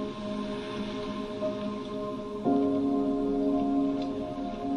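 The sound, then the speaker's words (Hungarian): Steady, soft babbling of water in the distance, a continuous gentle wash under a sustained low tonal hum that shifts pitch and swells slightly halfway through. “Miközben átjárnak ezek az elemi erők, meghallod a távolban a víz csobogását.”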